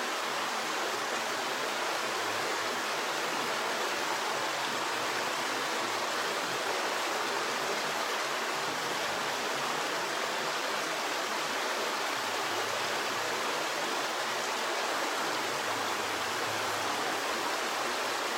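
flowing river water

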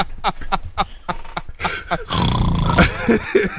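snoring

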